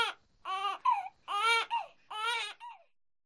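A young baby cries close by in three loud, wavering wails separated by short gasping breaths, each wail trailing off into a brief whimper, with no one talking.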